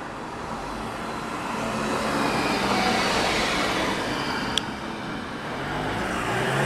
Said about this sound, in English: All these cars going by, I hope this is symbolic of the fact that everywhere we go, there's people.